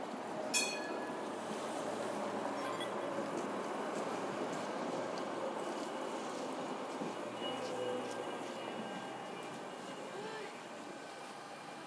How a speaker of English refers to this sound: 17 goes on the same route as 16. It's just past Romanplatz. Right. So is that the next tram to come this way.